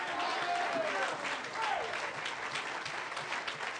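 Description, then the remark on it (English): An audience stands and claps steadily to give God praise, a dense, sustained wash of applause, with faint cheering voices rising briefly over the clapping. “My God, let's stand on our feet, clap our hands, give God some praise.”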